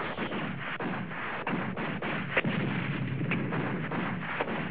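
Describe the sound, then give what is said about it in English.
Rapid, continuous gunfire rattles without pause, dense overlapping shots forming a loud, steady roar with a few sharper cracks standing out. No voices are heard. “Sound the gun.”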